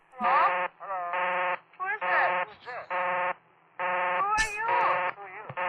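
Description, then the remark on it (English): A loud, harsh telephone busy signal pulses on and off in a steady rhythm on a Jam Line, where many callers dialed the same phone number, while several kids' voices talk and shout out phone numbers over it in a chaotic jumble. “An obnoxiously loud busy signal blared in the background, so kids would shout out phone numbers to call each other back.”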